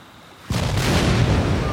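After a brief quiet lull, a single violent explosion erupts suddenly and loudly aboard a battleship on still water, ripping a large hole in its hull, followed by a sustained, roaring rumble of debris and noise that fills the rest of the moment.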